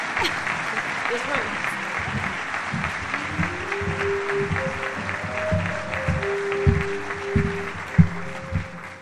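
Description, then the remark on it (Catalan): A crowd applauds loudly and steadily for about nine seconds, a dense wash of clapping, with a few sustained musical tones and low thumps underneath toward the end; the applause welcomes the chronicler at the presentation of a local festival magazine. “Un fort aplaudiment per a ella.”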